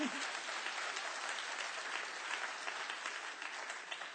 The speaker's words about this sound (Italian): Oh, se per Gesù fallo forte questo applauso, forte, forte. Se per me non farlo, ma se per lui farlo forte. Alleluia.